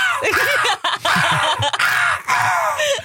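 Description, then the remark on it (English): A loud imitation of a crow's call, as used to lure crows when hunting them: a run of harsh, raspy caws delivered in quick bursts with short breaks between them, with no talking alongside. “And crows are very susceptible to crow calls.”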